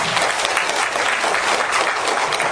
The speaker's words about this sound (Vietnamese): Nếu mà đại chúng đồng ý xin cho tràng pháo tay.